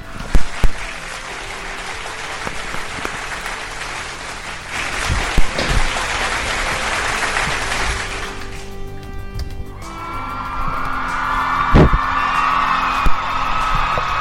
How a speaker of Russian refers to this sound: Я прошу прощения и специально прошу прощения и ставлю аплодисменты.